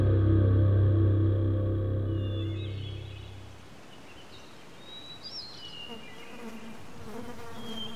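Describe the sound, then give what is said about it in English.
A loud, steady insect drone with strong harmonic hum fills the first few seconds, then fades into a softer, scattered buzzing with faint high chirps, as of birds or insects, in a forest. “Hell damn, I hate bugs.”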